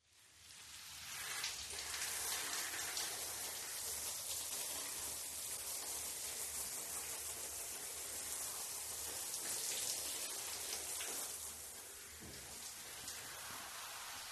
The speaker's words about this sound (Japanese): シャンプーがしっかりと泡立ったので、もう一度シャワーをかけますね。泡を流しますので、目を開けないでください。